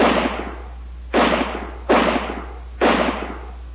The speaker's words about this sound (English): One of the first shots struck the creature, which gave a hideous howl that bounded onward.